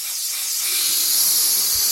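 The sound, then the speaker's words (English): A helium machine at the back of a tiny, crowded office supply store, 7th Avenue Office Supply in Brooklyn, as manager Wynn Comain blows up balloons. It gives off a steady, airy hiss of gas that holds constant for the whole two seconds, fairly loud, with no voices. “It's a helium machine at the back of a tiny, crowded office supply store in Brooklyn.”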